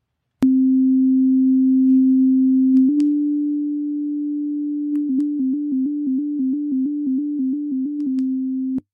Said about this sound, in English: All right, let's listen to the recording of Seeing AI playing the sound. So if you listen carefully, you'll actually hear the slight click when I'm actually clicking the taglet, followed by the tones indicating what the light is doing.